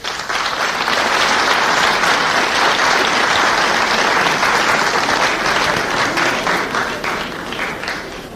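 Loud, sustained applause from a large audience, a dense wash of many hands clapping that holds steady for several seconds before easing off slightly at the end.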